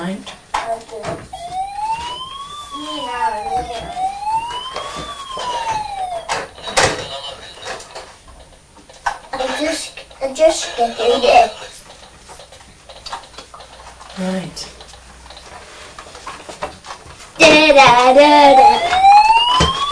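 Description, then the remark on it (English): A toy emergency-vehicle siren from toy vehicles on a table, including a fire engine, police car and ambulance, wails up and down in several electronic sweeps, followed by clicks and clatter, with children's voices and another burst of siren-like tones near the end. “Fire engine! Yes, fire engine, police car, ambulance.”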